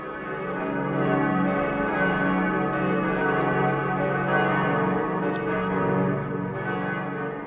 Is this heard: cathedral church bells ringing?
yes